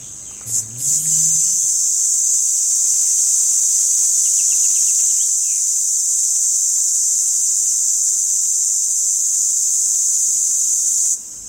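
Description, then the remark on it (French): A male red cicada (Tibicina haematodes) calling song: a loud, continuous, high-pitched buzzing drone that holds steady for about ten seconds before cutting off abruptly, with no voices present. “Et donc on va aller chercher la cigale rouge, de son petit nom latin Tibicina hematodes.”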